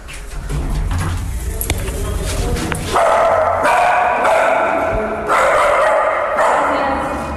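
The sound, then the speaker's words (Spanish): A dog, Salchi, barks loudly in a run of sustained, repeated bursts because there are people, following a stretch of muffled rumbling background noise. “Vas a ladrar porque hay personas.”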